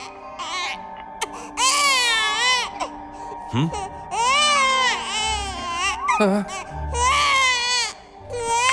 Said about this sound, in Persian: چطور جلوی گریهشو باید بگیرم؟ اصلا به من نگاه نکن، چون من هیچ تجربه‌ای با بچه ها ندارم.